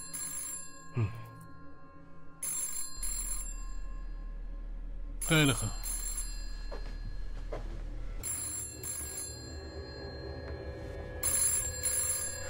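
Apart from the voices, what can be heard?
telephone ringing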